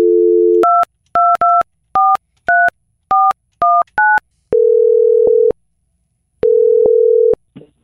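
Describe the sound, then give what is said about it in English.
A steady phone dial tone gives way to a quick run of about ten keypad dialing beeps as someone places a call, followed by two long ringing tones with a pause between. Loud and clear, with no voices. “So we're going to get her on the phone.”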